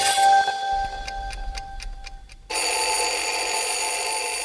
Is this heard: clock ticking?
yes